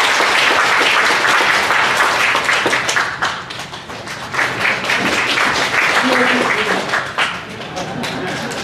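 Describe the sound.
A church audience applauds steadily for about nine seconds to welcome an elder as the next speaker, a dense and loud wash of clapping that dips briefly midway and then swells again, with a faint voice surfacing near the end.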